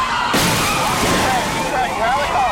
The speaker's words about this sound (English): The suspect's vehicle barrels into the four empty police cars, turning the highway into a war zone.